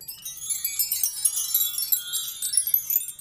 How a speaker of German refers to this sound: Das ist auch so ein Windspiel, also Stäbe, Windstäbe wahrscheinlich. Aus Glas.